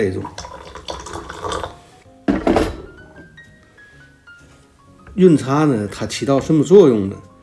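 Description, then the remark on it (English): Hot water at 100 degrees Celsius is poured over tea leaves in a large teacup for the first steep, a splashy trickle whose pitch rises as the cup fills, followed by a person talking. “We'll begin our first steep, which is called the yuncha, where we pour our water at 100 degrees Celsius into our cup.”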